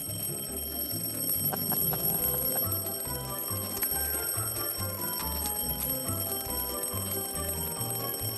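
An alarm clock rings nonstop in fast, regular bursts of low buzzing tone, steady and fairly loud, with bright metallic ringing overtones throughout and no voices.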